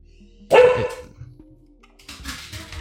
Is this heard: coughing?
no